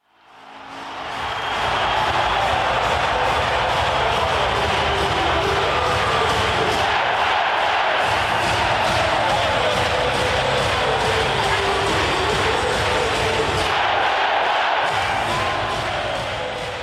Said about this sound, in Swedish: Alltså det jublet som kommer tillsammans, Oskarshamn. När de gör 2-1 där genom Wagner. Det var ju mäktigt när hela hallen bara vrålar ut det.